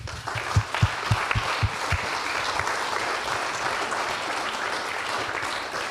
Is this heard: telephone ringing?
no